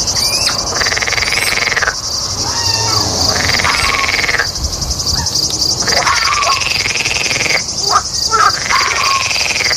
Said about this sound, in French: Une grenouille.